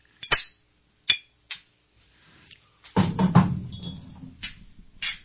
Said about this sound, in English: Bunch of clinking going on.